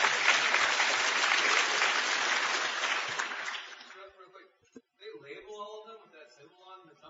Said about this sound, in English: Yes, it is Peterson International. Very good. Well, applaud for the man. He knows cool shit.